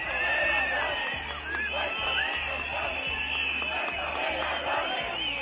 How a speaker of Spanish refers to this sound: Gritos contra el impuesto de sucesiones que pagamos en el Principado. Ha habido concentración en Oviedo para pedir su eliminación,